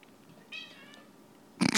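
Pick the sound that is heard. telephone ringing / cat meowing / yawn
cat meowing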